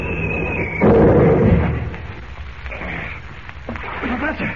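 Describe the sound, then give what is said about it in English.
A thin high whistle cuts off as an artillery shell explodes in a single loud, booming blast, its rumbling roar fading over a second or two into quieter, scattered noise. “Great Scott, I hope he wasn't hit by that shell.”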